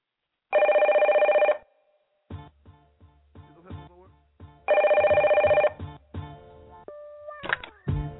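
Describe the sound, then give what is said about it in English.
A telephone rings on a phone tap recording played on PD Radio, two long, steady bursts, each about a second, separated by a stretch of short tones and clicks resembling a phone line connecting; no one speaks. “So here's the phone tap right here, exclusively on PD Radio.”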